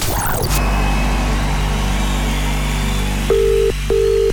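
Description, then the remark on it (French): A steady low hum and a short noisy burst at the start, then two long, even ringback tones, each about half a second, as a telephone call is placed to a contest finalist in Échallens. “Attention, on va faire sonner maintenant le téléphone de quelqu'un.”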